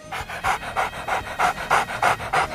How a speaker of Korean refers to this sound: 개가 지쳐 호흡이 가빠지자